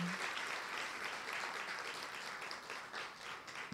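A crowd applauds steadily for nearly four seconds, a dense, even wash of many hands clapping at once with no voices rising above it.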